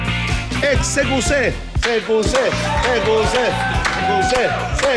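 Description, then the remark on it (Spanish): A crowd applauds and cheers in a hotel bar, with scattered sharp claps mixed into a loud, steady wash of overlapping voices and shouts that barely lets up for the whole stretch. “Venían entrando justo dos personas al hotel y pensaron que los aplaudían a ellos.”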